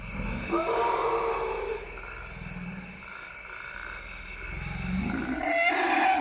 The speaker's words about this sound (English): That's a calf going, auga. We called that call the auga, and only juveniles make that call. They usually make it when they're being weaned and they're complaining, they're protesting. They want the mother to give them milk.